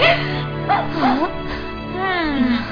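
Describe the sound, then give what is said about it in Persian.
A dog whimpers in several high, wavering whines that rise and fall in pitch, with brief pauses between them over a low steady background. “این سگ شیطون همه غذا رو خورد.”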